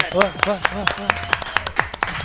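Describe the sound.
Steady, evenly spaced hand claps ring out crisp, about ten in quick succession, while voices talk and exclaim underneath them.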